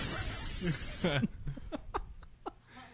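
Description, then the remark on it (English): A voice makes a steady, breathy spray-paint hiss for about a second, then breaks into several short, rhythmic bursts of laughter. “You walk in there, just spray paint you black real quick.”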